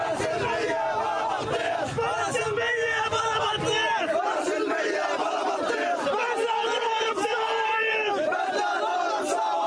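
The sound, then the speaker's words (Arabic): A large crowd of mourners at a funeral procession in Khan Younis cries out and chants together while carrying the body of 16-year-old Fahd al-Astal, killed by snipers near the Return camp east of Khan Younis. It is a continuous, loud roar of many raised voices, with overlapping shouts rising and falling throughout. “علت صرخات المشيعين وهم يحملون جثمان الطفل فهد الأسطل 16 عاماً الذي قتلته قناصة الاحتلال قرب مخيم العودة شرق خان يونس.”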